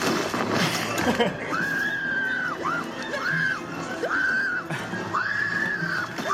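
A woman, an actress in a film, screams over and over, four drawn-out, piercing wails in quick succession, loud against a busy, noisy background.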